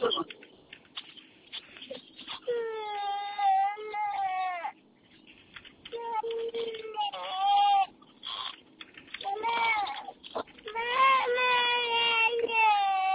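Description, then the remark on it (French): An infant cries loudly in repeated wailing bursts, with brief pauses between the wails and some quieter fussing in the gaps. “Qu'est-ce qu'il a, bébé? Qu'est-ce qu'il a? Il en a marre d'attendre.”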